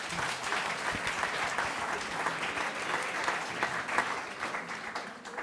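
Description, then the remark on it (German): Steady audience applause welcoming author Emanuel Mess, many hands clapping in a dense, continuous patter at moderate loudness throughout, with no speech. “Bitte heißen Sie Emanuel Mess hier zu meiner Linken, zu Ihrer Rechten mit einem Applaus willkommen.”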